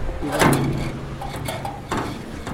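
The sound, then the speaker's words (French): A heavy door leading to a mausoleum in Tizir Qala being opened, with a thudding knock of the latch, a brief creak as it swings, and a second clunk near the end. “Porte pour aller au mausolée en fait.”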